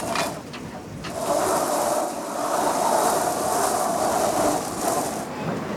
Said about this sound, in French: Là on va affaler la grand voile.